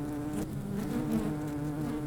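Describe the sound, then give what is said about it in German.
A steady, continuous buzz of a beekeeper's honeybees in a city, many wings humming together at a constant low pitch, moderately loud, with no speech. “Und dazu gehört eigentlich, dass es meinen Bienen und allen anderen Insekten in der Stadt gut geht.”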